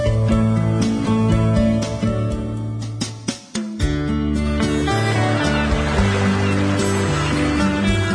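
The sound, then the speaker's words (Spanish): Ambience at a fishermen's quay, dominated by the steady drone of an idling boat engine, with a brief lull partway through and faint bird calls and water sounds around the quay. “Disfrute del colorido y los sonidos típicos de la banquina.”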